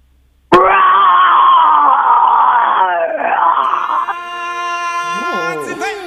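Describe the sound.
A person imitates a lion's roar with one long, loud, raspy vocal blast that wavers and thins out, followed by a shorter, quieter second surge of rising and falling growls at the end.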